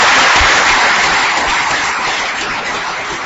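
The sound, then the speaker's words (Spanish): A crowd applauds steadily at a Partido Popular political event in Guareña, Spain, a dense wash of many hands clapping with no individual claps standing out, holding loud throughout before easing off slightly toward the end. “Y el primer aplauso en mi intervención, quiero que se lo dediquéis a ellos, porque se lo merecen de verdad.”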